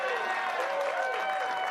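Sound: studio audience applause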